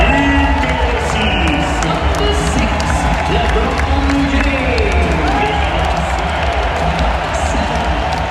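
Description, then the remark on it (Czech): A large crowd in the Bercy arena roars and cheers steadily at the entrance of LeBron James and the US basketball team at the Olympics, with dense overlapping shouts, whistles and scattered clapping forming a loud, continuous wall of noise throughout. “Nástup LeBrona Jamese samozřejmě vyvolal velký rozruch, ale to oficiální nastoupení, to ještě uslyšíte.”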